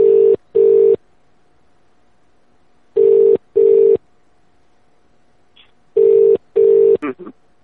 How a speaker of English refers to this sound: Now the phone's ringing again.